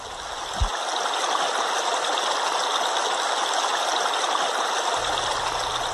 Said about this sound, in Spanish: Toco el arroyo.